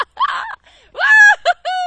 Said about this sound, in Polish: Piski, wrzaski, gałązki brzozowe, woda się leje.